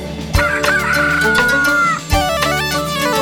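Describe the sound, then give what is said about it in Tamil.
A rooster crows with a long, drawn-out call that holds steady before trailing off, set against a loud musical backing with sharp percussive hits. “விடிய போக வேளையிலே கூவி எழுப்புது, கொண்டையதான் ஆட்டுக்கிட்டு நம்ம பாக்குது.”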